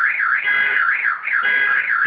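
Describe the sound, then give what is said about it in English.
A car alarm blares loudly and continuously in New York, its piercing tone sweeping up and down in rapid, regular cycles about twice a second, with no voices over it. “Car alarms following me everywhere I go in New York.”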